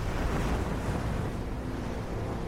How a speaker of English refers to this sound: He adjusts the ship's wheel. The rudder churns up the water.